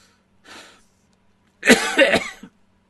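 A soft breathy exhale followed by a loud, close burst of several harsh coughs in quick succession, then silence. No talking.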